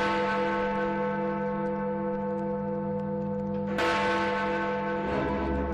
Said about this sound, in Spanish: El 7 de septiembre de 1859 comenzaron a repicar las campanas del Big Ben.